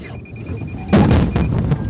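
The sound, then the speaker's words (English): A Lexus 600 gas-electric hybrid's collision alarm, driven by onboard radar and cameras, sounds rapid high electronic beeps, then a sudden broad crunching impact as the car plows into a wall of cardboard boxes, with rustling and thumping debris afterward while the beeps continue faintly. “Just before we crashed into that wall of cardboard boxes, an alarm went off.”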